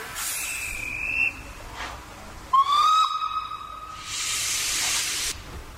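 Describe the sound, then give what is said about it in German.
A steam locomotive's whistle sounds in two sustained blasts, the second louder and rising, with bursts of broad steam hiss before and after, and no one talking. The steam locomotive, named Graf Bismarck with a black-green cab, pulls the Krefelder Schluff nostalgic train at Krefeld Nordbahnhof. “Die Geräuschkulisse am Krefelder Nordbahnhof verrät schon, der Krefelder Schluff ist ein Nostalgiezug, der von einer Dampflok gezogen wird.”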